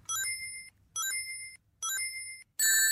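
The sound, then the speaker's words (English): A bright, high-pitched video game ring-collecting chime rings out three times at a steady pace, followed by a fourth, louder and fuller one, with no voices. “it's actually Sonic collecting a shed is load it?”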